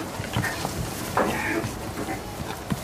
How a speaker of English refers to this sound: Right, here you go, pigs. Go on, kick the ball